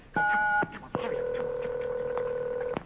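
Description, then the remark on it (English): A single touchtone keypad beep, as the number one is pressed on a touchtone phone, sounds briefly and loud. After a short gap, a long, steady electronic phone tone holds for nearly two seconds. No voices are present. “you want to talk to a real person, push the number one on your touchtone phone.”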